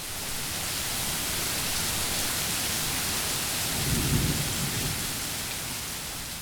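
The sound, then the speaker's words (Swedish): Steady heavy rain hisses throughout, and a low rumble of thunder swells near the middle before fading back into the downpour. No voices. “Oväder, en kopp te”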